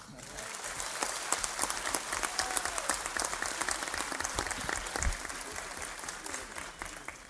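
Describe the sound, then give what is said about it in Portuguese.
Sustained applause from an audience in Brasília, at an event presenting the city as the 2014 World Cup host where the Cup begins: a dense, steady crackle of many hands clapping at fairly even loudness for several seconds, with a few scattered voices mixed in. “As palmas têm que ser muito maior.”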